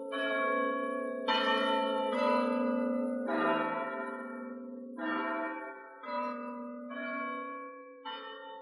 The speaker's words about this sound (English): Bronislav cared very much for Elisabetta, so a few weeks later, the bells of the little church proclaimed them man and wife.